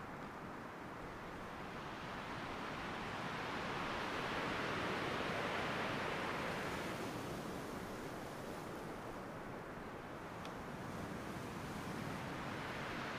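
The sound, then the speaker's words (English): Ocean waves roll in and break on a sandy shore in a steady, continuous wash of surf, swelling louder midway and then easing, with no voices present. “And from the distant sea to the sand beneath your bare feet.”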